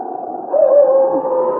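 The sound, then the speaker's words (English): Two wolves howl at night: one long, drawn-out wavering note that swells after a quieter start, with a faint second howling voice beneath it. It sounds somewhat muffled, with no talking. “King heard the sharp howls of a wolf, and then a second wolf could be heard.”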